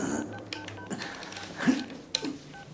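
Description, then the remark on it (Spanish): A telephone number is dialed by a man sitting on a sofa calling a doctor, a short series of distinct keypad tones at an uneven pace, clear against a quiet background. “Deja la cartera, coge el teléfono y se sienta en el sofá. ¿Cuál es su número?”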